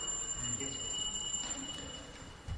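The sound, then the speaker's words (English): A clock chimes six o'clock with steady, ringing bell tones that hang in the air over a low hum of background noise, moderately quiet. “Is it 6 o'clock already?”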